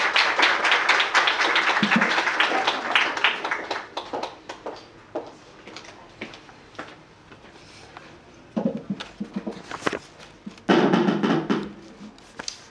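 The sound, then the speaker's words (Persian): Dense applause from a conference audience welcoming a speaker to the podium, then thinning to scattered claps over several seconds, with a brief burst of clapping picking up again near the end. “متوقع خانم دکتر هم که خودشون به نوعی از پیش کسوتان جوان عرصه روش و روش شناسی هستن، تقاضا میکنم خانم دکتر رو با تشویق و حضور در جایگاه حاضر بشن.”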